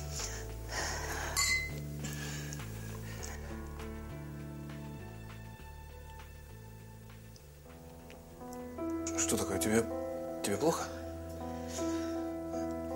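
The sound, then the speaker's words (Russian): A few bright clinks of a ring in a champagne glass, loudest in a short burst near the end, with steady background music underneath. “Шампанское. Черт. Закрой глаза. Все. Кольцо в бокале. До дна.”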